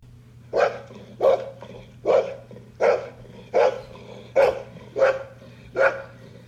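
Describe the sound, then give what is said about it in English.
A Boxer dog barks eight times in a steady, evenly spaced rhythm, each bark loud and deep, with a low constant hum underneath. “if you want to go ahead and show us what that bark sounds like.”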